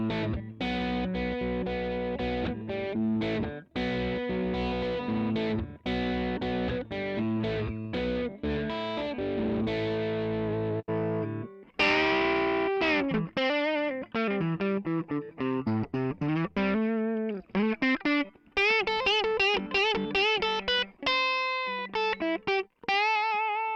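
Overdriven electric guitar through an amp with a gritty crunch tone and slightly raised gain, first strumming full rhythmic chords, then moving to bending, vibrato-laden lead lines. It plays loud, with no voices.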